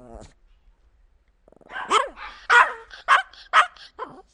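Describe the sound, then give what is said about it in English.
Dogs bark in a quick run of sharp barks, five or six yips and woofs in uneven rhythm, with a brief rough growl or whine just before them. “Oh, the dogs are going again. It's okay. The dogs are dumpster firing, too.”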